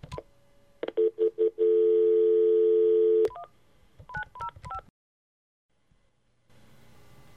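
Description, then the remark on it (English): A phone line clicks and beeps, a steady dial tone hums for a couple of seconds, then a quick run of touch-tone keypad beeps dials a number, followed by quiet line hiss. “I guess we should go ahead and get Blackjack on the phone.”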